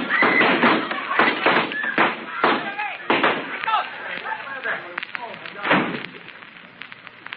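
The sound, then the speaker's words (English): Gunshots in a shootout started by two men: a rapid, irregular string of loud, sharp bangs, about seven or eight, through a muffled, dull-sounding recording, with shouting and commotion running underneath. “Them two jacks that started the shooting went out the back door.”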